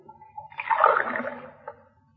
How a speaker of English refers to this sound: Sure, and I see you're careful about how you run the water. Well, it's precious right now.